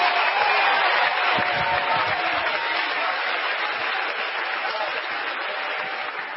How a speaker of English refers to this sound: You're doing more than clapping your hands. You're doing more than doing a jig. You're driving that devil of depression out.